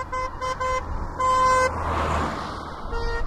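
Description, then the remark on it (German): A car horn honks in several short bursts and one longer blast over road noise as the car approaches and passes, then the tone drops lower as it drives away, ending with a fainter honk. “Der Doppler-Effekt sorgt dafür, dass die Schallwellen beim Näherkommen gewissermaßen zusammengedrückt werden und höher klingen.”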